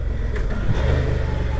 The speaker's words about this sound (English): Nice bit of engine braking.